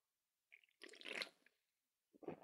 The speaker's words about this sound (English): Is that ASMR? I hate the sound of swallowing. Hold on. Excess spit? Ew. Mouth sounds cannot be ASMR.